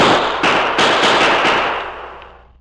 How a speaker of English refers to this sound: Perhaps someone will hear the shots.